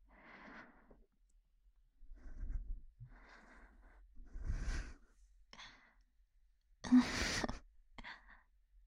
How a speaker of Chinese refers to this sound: 总感觉你在喘气啊，喘粗气